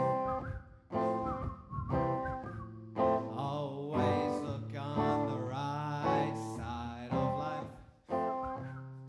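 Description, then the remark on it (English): A jaunty tune is whistled in short melodic phrases over a full, steady musical accompaniment, with the whistle riding clearly on top at moderate volume. “Just push your lips and whistle, that's the key.”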